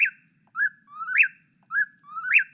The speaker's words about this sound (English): The winner, wings down, is Whippoorwill. The ornithologist Don Kruzma once counted a whippoorwill's songs over the course of an entire night, and it screamed its name more than 20,000 times, including 2,500 times in 1 hour.